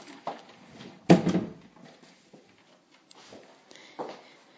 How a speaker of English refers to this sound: Let me just close the bedroom door first, just in case.